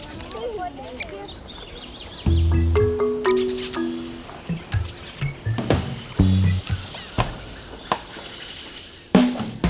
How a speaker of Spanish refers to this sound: Este es un aeropuerto de aves, esto llega a aves de todas partes.